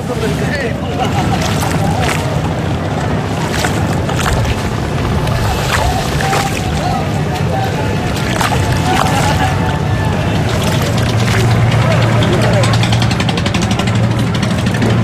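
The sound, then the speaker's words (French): A boat engine rumbles and idles steadily as the boat arrives in the port of Dakar by the river, amid busy harbor noise, with scattered knocks and clanks and indistinct voices murmuring throughout. “Ben, écoute, on est dans le port, au bord de la rivière.”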